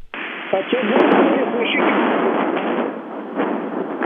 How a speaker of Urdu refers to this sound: گرج چمک اور شدید بارش کی یہ آواز جو آپ سن رہے ہیں, یہاں مظفر آباد پاکستان میں متاثرین زلزلہ کے لیے مزید مصائب لا رہی ہے. میں ایک ایسی فرسودہ خیمہ بستی میں ہوں جہاں بارش سے سیلاب کی کیفیت ہے.